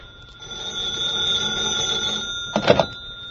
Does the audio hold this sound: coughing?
no